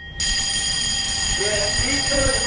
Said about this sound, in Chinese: 过节不忘战备，时刻整戈待旦。突然急促的警铃声响起，一场模拟攻防演练随即展开，官兵们闻令而动，迅速奔赴战位。